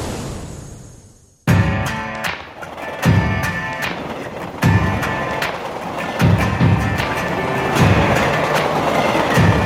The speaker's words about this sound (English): Just hit a delay. You know, sometimes here in Canada, if you get the wrong timing and a train comes, like I did right now, sometimes you have to wait for, like, I don't know, 10 minutes or maybe more, because sometimes these trains are really long.